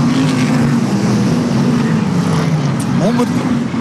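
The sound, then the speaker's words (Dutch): A white racing car's engine roars loudly and steadily during a race, its pitch shifting near the end as it sweeps past. A voice talks faintly beneath the engine noise. “dat is die witte auto van Sjaak Kenty. Hij zit in een hevige strijd met Sander Vermeulen”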